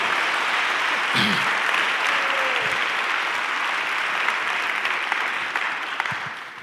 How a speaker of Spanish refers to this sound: Ahora sí podemos aplaudir bien.